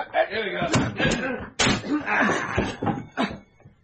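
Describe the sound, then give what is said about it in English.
Heavy blows thud against a door, a couple of knocks and then a loud splintering crash as the door is broken down, with raised voices talking over the commotion. “In another city, 20 miles away, another sort of hammering on a different door. All right, break it down.”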